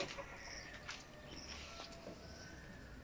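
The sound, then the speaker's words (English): Chickens cluck faintly over a steady outdoor background hiss, with a few short, scattered calls and no one speaking, heard from a back balcony among maize fields, banana trees, goats and buffalo in the middle of a city. “As you can see from the surroundings, we have maize fields, we have banana trees, we have goats and chickens and buffalo.”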